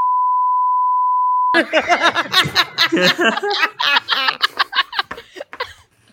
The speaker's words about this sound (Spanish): ¿Te importa a mí que mete un pitido? Sí, va a pedir. Tiene que meter un pitido, ¿eh?